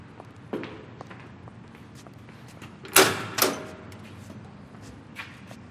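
A man walks toward the door of a storeroom: soft, irregular footsteps, followed by two sharper, louder knocks in quick succession, like a door being handled, then a faint final step.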